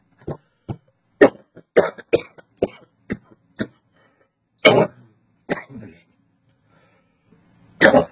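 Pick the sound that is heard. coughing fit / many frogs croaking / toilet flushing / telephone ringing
coughing fit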